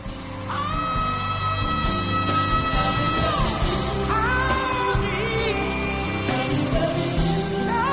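A loud, sustained mass of high-pitched screaming and yelling from a large crowd, with sharp shrieks rising above a dense roar that fills the whole stretch without pause.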